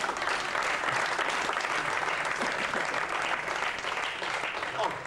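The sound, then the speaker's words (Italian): A large audience applauds steadily, a dense wash of clapping that holds at an even, fairly loud level for several seconds with no clear voices above it. “Fate un applauso, dai.”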